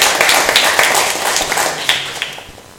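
A gathering of people at a morning worship service applauds together to thank someone for helping out, a dense, steady patter of many hands clapping that starts to thin out and fade near the end.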